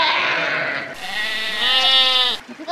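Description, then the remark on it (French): A sheep grazing on an island, seen from a boat, lets out one long, wavering bleat, fairly loud, preceded by a short burst of rough, breathy noise. No one speaks. “Depuis le bateau, on a vu une île où il y avait des moutons qui mangeaient de l'herbe.”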